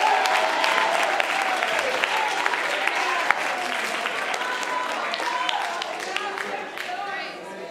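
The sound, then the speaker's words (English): A crowd claps steadily and loudly for several seconds in answer to a call to clap hands and lift voices in faith, dense overlapping hand claps forming a continuous wash with scattered sharper claps, fading slightly toward the end. “Oh, would you clap your hands and lift your voice as if to say, I've got a measure of faith.”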